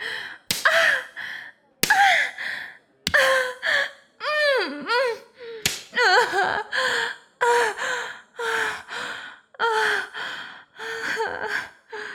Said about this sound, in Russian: Да, хозяин, шлепните их еще.